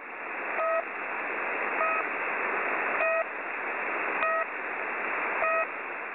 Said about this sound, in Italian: Prende il suo nome dal suo tipico marcatore, sempre attivo, un bip intermittente, che possiamo ascoltare in questa breve registrazione.